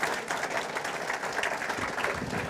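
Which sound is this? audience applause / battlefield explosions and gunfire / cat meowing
audience applause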